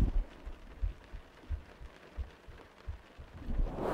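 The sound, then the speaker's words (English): A muffled heartbeat thumps steadily, about six low, soft beats at an even pace, with a faint rustling hiss underneath and no talking. “I was gonna let you hear my heartbeat.”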